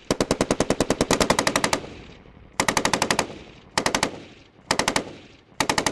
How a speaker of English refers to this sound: Considering it's the first time we burst fire. Burst fire, which means 6 to 8 round burst. That's what we're trying to achieve with them.